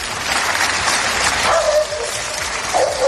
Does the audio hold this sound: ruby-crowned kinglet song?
no